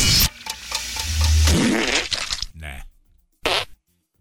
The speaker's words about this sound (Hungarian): Belepukizik egy üvegbe. De várj, az eleje nem pukis volt.